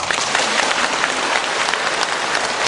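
Steady applause from a sizable audience, dense clapping filling the whole stretch at an even, fairly loud level with no voices over it.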